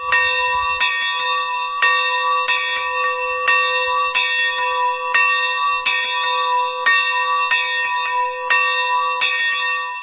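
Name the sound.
church bell ringing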